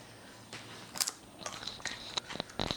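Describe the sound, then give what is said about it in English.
A crisp bite into a fresh, crunchy, ivory-colored raw root vegetable, followed by a quick run of sharp, irregular chewing crunches, with no one speaking. “we should even taste it raw, because I suspect this fresh”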